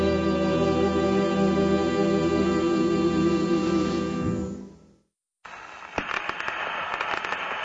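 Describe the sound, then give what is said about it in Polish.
A short musical jingle for Radio Satysfakcja fades out and, after a brief gap, dense vinyl-record needle crackle takes over, full of sharp pops and clicks against a steady hiss. No voices. “Dorobiliśmy się, jak Państwo słyszą, już odpowiedniego dżingla. Trzeszczy, tak jak powinno trzeszczeć”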